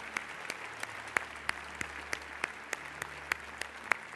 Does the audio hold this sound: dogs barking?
no